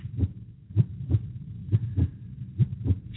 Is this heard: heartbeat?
yes